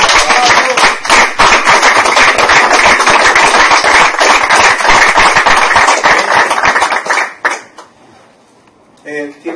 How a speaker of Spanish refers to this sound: Merece um aplauso, né?